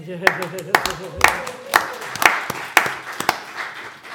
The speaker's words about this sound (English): That deserves a clap.